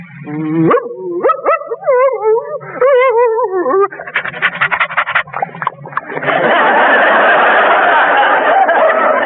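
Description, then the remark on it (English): A person performs a friendly dog, as a script may call for: a run of eager, rising yips and whimpers, then quick rhythmic panting that swells into a long, loud, breathy huffing. “in a script, I may be called upon to be a friendly dog like this.”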